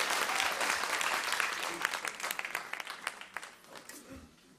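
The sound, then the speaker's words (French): A church audience applauds to thank Jesus, a dense wash of many hands clapping that holds steady, then thins into scattered claps and fades out near the end. “Et puis s'il y en a qui veulent dire merci à Jésus et l'applaudir, vous pouvez aussi, il n'y a pas de problème.”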